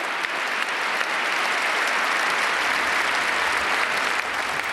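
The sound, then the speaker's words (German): Steady, dense applause from a large crowd for Donald Trump during his inauguration speech, a continuous wash of clapping at even loudness throughout, with no voices standing out. “Also Applaus für Donald Trump bei seiner Rede zur Amtseinführung.”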